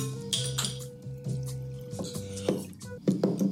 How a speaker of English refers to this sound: Here he is. Malort and Everclear into a shot.